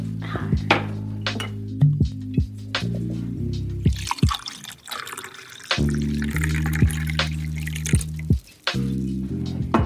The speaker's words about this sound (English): Let's pour a little bit of wine.